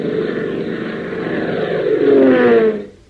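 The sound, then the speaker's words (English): A single-engine Fairchild monoplane's engine drones steadily overhead as it circles slowly over the fog-bound Lakeville Airport, its pitch shifting slightly as it swells louder near the end before fading out abruptly. “A single-engine Fairchild monoplane circles slowly over the fog-bound Lakeville Airport, its pilot in desperate trouble.”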